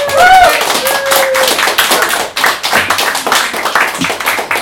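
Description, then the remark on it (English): A crowd bursts into loud, sustained applause at the close of the 620th edition of the OVA, a Twin City annual poetry event. Dense overlapping claps fill the whole clip, with a few whoops and high cheers rising above them near the start. “Let's give the bow and a round of applause.”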